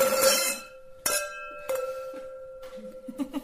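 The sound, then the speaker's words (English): Several glasses clink together in a toast during a wine interview and tasting, each strike leaving a clear, high ringing tone that lingers; a few lighter, overlapping taps follow near the end, with no talking. “You hear a number of glasses clinking there because my wife”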